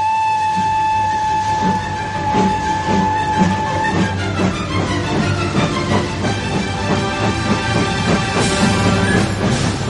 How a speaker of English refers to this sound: Come the 22nd of October, a special mystery tour train set off from London Bridge and chuffed out into the Kent countryside.